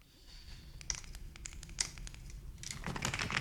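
Handling noises of a man in a dark photo lab fumbling for a torch that does not work: a run of small plastic clicks and taps with some rustling and scraping, irregular and fairly quiet, building into busier fumbling toward the end. No voices.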